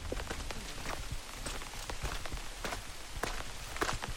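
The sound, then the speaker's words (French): Steady rain falls in Courtelary, pattering onto a hard surface in a dense, crackling spray of drops with a few louder splats mixed in, and no voices. “Il pleut, donc je vais ranger bientôt tout le matos son pour avancer.”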